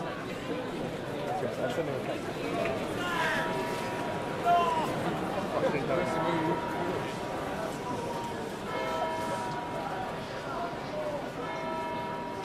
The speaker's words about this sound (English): Dawn on May morning outside Magdalen College, and I'm taking part in a very ancient Oxford tradition when crowds cram High Street to hear the Magdalen Choir herald the changing of the seasons from the top of the Great Tower.